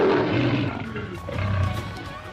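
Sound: lion roaring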